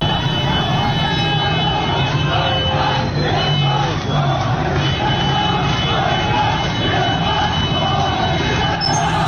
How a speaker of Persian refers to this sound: دیروز تعدادی از شهروندان منطقه عین دو در اهواز در اعتراض به اونچه اونها عدم رسیدگی به وضعیت سیل و هدایت نشدن آب به سمت تالاب هورالعظیم خوندن، دست به تظاهرات زدن. صدای این تظاهرات رو میشنویم.